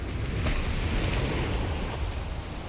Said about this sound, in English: Uh-oh, it's lifting its flipper. It's too close to the boat. Oh my God, it's gonna splash.